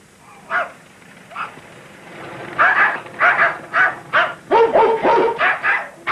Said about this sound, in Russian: Скажите, это у вас овчарка? Да. А у меня тоже ищейка. Во!